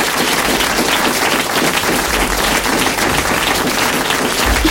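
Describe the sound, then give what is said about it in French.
Steady, loud applause from a show audience for a musician guest, a dense wash of many hands clapping continuously for several seconds with no voices standing out. “Merci, vous pouvez applaudir.”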